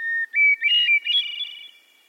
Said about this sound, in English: Many people would tell you that hearing bird song, like the one from this hermit thrush, puts them in a good mood.